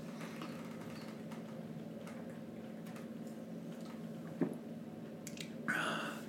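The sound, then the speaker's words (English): Faint wet sips and swallows of the last bit of beer from a can over a steady low hum, a small clink midway, then a short breathy rush of air at the end as the drinking stops. “I'll drink the last little bit of the can first.”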